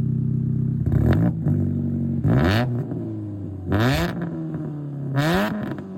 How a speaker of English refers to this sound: I threw an exhaust tip on it. It has a manifold bullet muffler and a competition resonator.